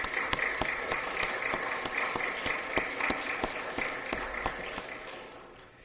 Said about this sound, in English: Would you give them just a brief round of applause?